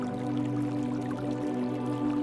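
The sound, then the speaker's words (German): Soft, steady trickle of water from a small brook in a sunlit forest on an unusually warm day in the cold season, heard at a distance as a continuous gentle babble with faint drips, no voices present. “In der Ferne hörst du das leise Plätschern eines Baches.”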